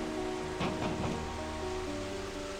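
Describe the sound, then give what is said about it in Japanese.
Steady rain hisses with a rush of wind beating on a door, swelling in a few brief gusts early on, then settling into an even, fairly quiet downpour. “戸を叩く風の音と雨の音とはいつまでも衰えませんでした。”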